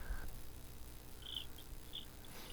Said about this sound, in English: I literally heard crickets.